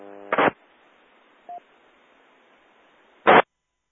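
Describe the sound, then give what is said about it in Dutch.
Three short beeps from a station on an amateur radio net cut through steady radio static, spaced a second or two apart. The middle one is a thin, quiet tone, while the first and last are louder, harsher bursts. “Ja, er is iemand met 3 piepjes.”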